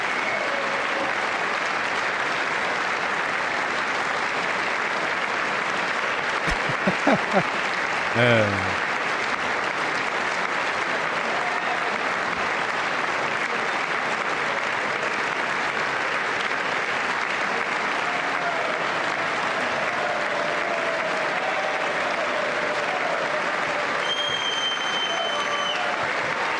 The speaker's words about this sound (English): Wait, what are we clapping? All these people clapping for racism? Is that what we're doing?